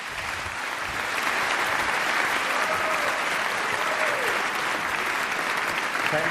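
Steady applause from an audience welcoming a speaker for a talk on how the infrastructure of the internet works. It is a dense, even wash of many hands clapping at constant loudness, with a faint whistle or cheer rising briefly in the middle.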